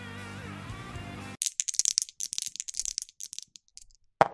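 A short stretch of music cuts off, then dice for the game Bang! clatter and tumble in quick, irregular clicks for about three seconds, ending with one sharp knock as they settle on a 3.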